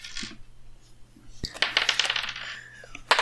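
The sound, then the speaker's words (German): Dice rolled for initiative in a game clatter and tumble across a hard table surface, starting with a sharp impact and a burst of rattling clicks, then settling, with another sharp knock at the end. “dann wirft der erste slingt so einen Stein auf euch und wir würfeln mal Initiative.”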